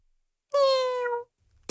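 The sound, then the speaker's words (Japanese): A single drawn-out cat meow, clear, lasting under a second with a slightly falling pitch, followed by a brief sharp noise at the very end. “猫の声、クセ者は切る、喰らえ。”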